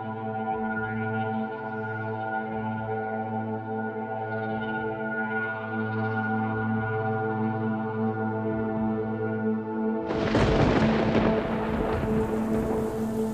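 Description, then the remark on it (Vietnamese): A steady droning hum plays for several seconds before a sudden late-afternoon downpour bursts in, a loud, dense rush of rain pouring through the final few seconds. “Trời chợt đổ cơn mưa.”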